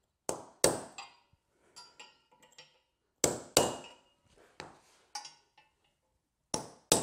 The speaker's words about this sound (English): So now that I've got it positioned, hopefully where these holes are not going to be going through any hydronic lines, I'm just going to mark each hole location with a punch.